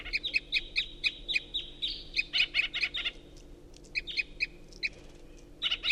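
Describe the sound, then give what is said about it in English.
A singing bird gives strange flight calls, a quick series of high, sharp chirps in bursts, with short pauses between clusters of notes, over a faint low background hum. “And the first singer is giving strange flight calls.”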